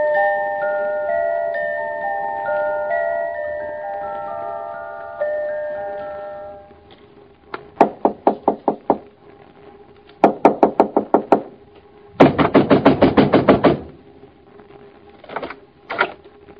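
Soft sustained musical tones fade out, then loud pounding on a door comes in urgent bursts of rapid heavy knocks, each flurry pausing before the next, the third the fastest and longest.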